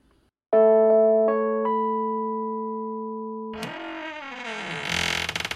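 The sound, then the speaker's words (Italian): A barn door creaks open with a wavering, grinding groan that ends in a noisy scrape. It follows a sustained electronic chord built from several quick note onsets. No one speaks. “Un cigolio fa voltare entrambi. La porta si spalanca”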